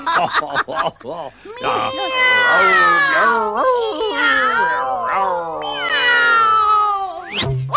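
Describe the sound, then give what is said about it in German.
A cat meows loudly in a long, drawn-out series of wailing yowls, its pitch sliding up and down for several seconds, with no other sounds around it. “Knack, knack, knack, die Katze? Miau.”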